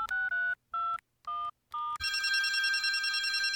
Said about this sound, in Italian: Chiesi perdono alla buon'anima Teata, intanto che già l'indice mi era partito a far numero di telefono.